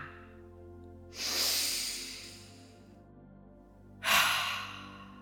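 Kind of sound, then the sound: human body sound, deep nasal inhale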